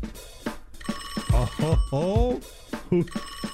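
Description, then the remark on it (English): A telephone rings with a steady, high electronic trill that continues for several seconds, while a voice speaks over it in short bursts. “Ring that phone.”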